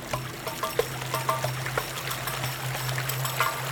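Water trickles and burbles steadily with lots of small irregular splashes over a low steady hum. No one speaks.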